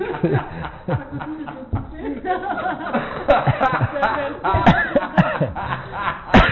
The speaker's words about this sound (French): Ce verset-là me... Excusez. Ce verset-là me faisait tousser.